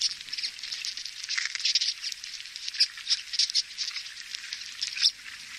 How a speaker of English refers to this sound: This is what the evil forest destroying pine beetles sound like. Ready? For the next? Here they are. Before he did this, no one even imagined the beetles were making sounds.